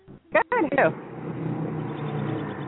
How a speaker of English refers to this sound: I think there was a truck going by you, a car or something